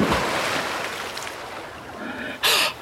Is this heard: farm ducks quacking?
no